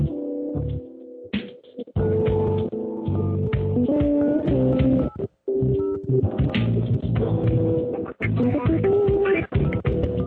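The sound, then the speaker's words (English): A long, rapid run of loud electronic telephone keypad tones, one beep after another with only brief gaps, as a number is dialed. No one speaks. “For calling within India, dial 0 followed by 10-digit phone number followed by hash or pound key.”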